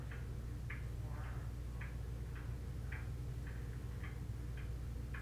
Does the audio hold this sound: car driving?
no